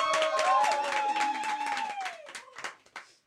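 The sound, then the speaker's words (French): A small group applauding themselves after singing, with quick overlapping claps and voices whooping and calling out over them. The clapping is loud at first, then thins into scattered claps and fades. “On s'applaudit parce que c'est.”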